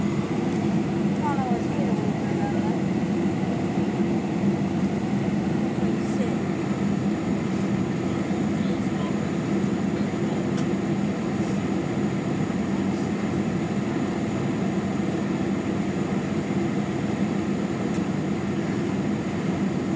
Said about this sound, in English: See, the engines aren't going powerful enough to actually take us up. They're just going powerful enough to help us coast down.